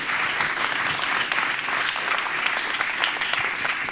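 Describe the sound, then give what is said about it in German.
An audience applauds the speaker of a talk on RFID and NFC. A dense wash of many hands clapping holds at an even, sustained loudness throughout, with no voices standing out. “Und deswegen einen herzlichen Applaus für unseren Speaker, für den Talk zu RFID und NFC.”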